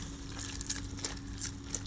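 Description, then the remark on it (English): Thick brain soup, made with about half a kilo of flour, bubbling on its own, with about five irregular wet pops and squelches rising over a low steady hiss. The whole thing stays fairly quiet. “But it bubbles nicely and the...”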